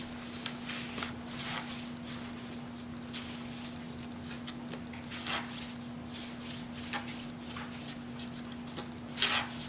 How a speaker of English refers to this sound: I'm just gonna put it on my parchment paper, and then I'm gonna roll this one out again.